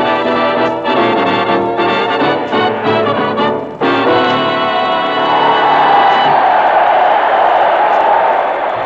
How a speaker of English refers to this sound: Tonight we're tuned in to the applause and voices of high-flying blue jackets of Uncle Sam's Navy, the officers and men of the Naval Air Station, Banana River, Florida.